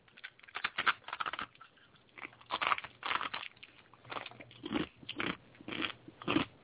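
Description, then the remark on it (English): Crisp, crunchy bites into fried chicken nuggets followed by steady chewing, a string of sharp crackly bursts repeating irregularly over several seconds with no talking. “You took a way bigger bite than me, probably.”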